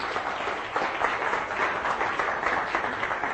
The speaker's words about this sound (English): A round of applause, of course, please.